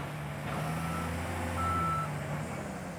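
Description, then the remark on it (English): Bulldozers, dump trucks and backhoes rumble with a steady, droning diesel engine hum as they move up and down a new road into the jungle, and a single high reversing-style beep sounds partway through. No one speaks. “Bulldozers, dump trucks, and backhoes lumber up and down a new road that snakes into the jungle to the 6 experimental plots.”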